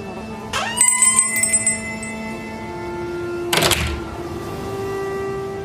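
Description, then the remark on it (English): A shop door bell jingles as someone enters a bric-a-brac shop, ringing brightly and decaying over a second, followed by a soft thump or rustle; a low steady hum runs underneath with no talking. “Someone entered the witch's bric-a-brac shop, a half-price turquoise. But of course, again, there's a bell.”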